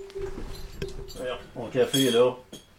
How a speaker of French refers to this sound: Prendre une gorgée de café, tiens.